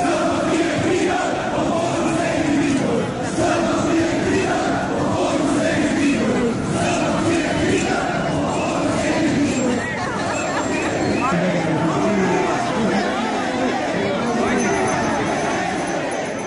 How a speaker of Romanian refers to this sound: Iată câteva dintre scandările protestatarilor din această seară din București pe Calea Victoriei, în drum spre sediul MEAI din Piața Revoluției.